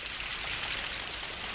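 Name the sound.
rain falling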